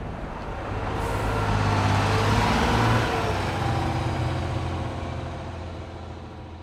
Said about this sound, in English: The rest of the team gets back on the bus and heads north, up Interstate 90, a 4-hour ride to their next game against the La Crosse Bobcats.